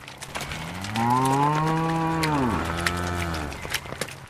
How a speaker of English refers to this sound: leaves the cows out after morning milking